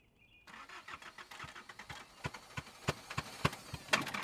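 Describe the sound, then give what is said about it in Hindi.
The engine of an old 1985-model E-Class car cranks and starts after a brief quiet moment, with rapid, rhythmic cranking pulses growing louder and ending in sharp bursts as it catches. “Try करते रहो, जरूर स्टार्ट होगी। ई क्लास है। सर ई क्लास तो ठीक है, लेकिन 85 मॉडल है ना, थोड़ी पुरानी।”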